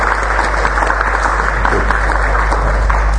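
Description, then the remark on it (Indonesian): An audience applauds, a dense and steady wash of many hands clapping at once, loud and even for the whole stretch with no voices standing out. “Nah, tepuk tangan buat semuanya kalian.”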